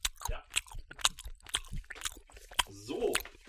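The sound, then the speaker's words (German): Wet chewing with repeated lip smacks and crunchy bites in an irregular rhythm, loud, with no talking over it. “Kann man da eigentlich hören, wenn ich schmatze?”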